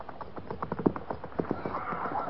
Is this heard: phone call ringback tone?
no